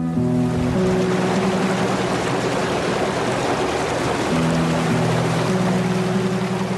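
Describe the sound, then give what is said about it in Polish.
Water rushes loudly and steadily over a rebuilt dam on the Krzczonówka stream in Krzczonów, a dense, unbroken roar. A faint low hum drifts underneath at times, and no one speaks. “Jesteśmy w Krzczonowie, przy przebudowanej zaporze na potoku Krzczonówka.”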